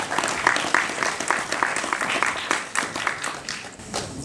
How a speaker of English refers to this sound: And we just want to say you make an incredible difference, and maybe you should give yourselves a round of applause.